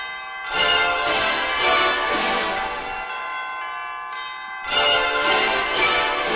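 An up-tempo orchestral song intro with bright, bell-like chimes ringing over full band harmonies, loud and close, swelling in two bursts with a brief thinner stretch between; no voices.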